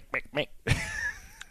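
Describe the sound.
A person imitates the chicken sound of the Cadbury Easter bunny laying an egg: two short, clipped clucks followed by a longer, drawn-out squawk that trails off, fairly loud.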